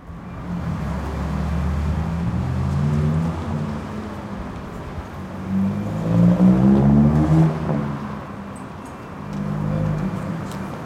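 Steady street traffic at night around 10:30 p.m. on a Wednesday, heard from the steps of St. Paul's, with cars and engines rumbling past in overlapping waves, one vehicle swelling louder as it goes by before the hum settles back into a continuous roadway drone.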